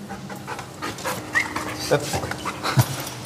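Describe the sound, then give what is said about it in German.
A sniffer dog pants quickly and steadily while searching a prison cell, sniffing a tobacco tin and looking under the bed, with short sniffs and faint whimpers, while bits of background activity and soft knocks come and go. “Gerade beschnüffelt er die Tabakdose, guckt unter das Bett, denkt, der Job ist erledigt, aber nein, der Hundeführer möchte, dass er nochmal überprüft, ob nicht noch was zu finden ist.”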